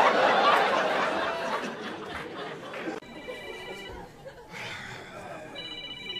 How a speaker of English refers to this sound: God damn, what ring is that? It sound like the bat phone. Commissioner Gordon needs you to meet him on the roof.